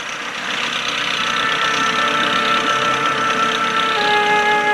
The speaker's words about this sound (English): He unties a faded wooden motorboat and gets in. Pulling a handle, he starts the outboard engine and steers the boat along the saltwater canal.